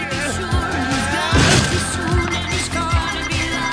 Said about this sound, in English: He smashes through a couple of walls and Princess Peach wakes up, just as Mario breaks the cutout of Bowser into pieces.